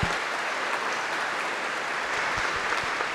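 Steady applause from an audience fills the whole stretch, a dense, even patter of many hands clapping at once, fairly close and consistently loud with no voices standing out.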